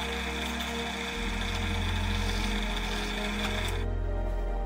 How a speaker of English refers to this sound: We'll use one of the steel plates as a template to trace 2 holes in this lid. We mark the holes and drill 2 6mm diameter holes.